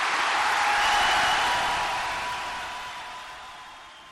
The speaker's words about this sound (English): it's no surprise that there was applause when the IRA was mentioned there.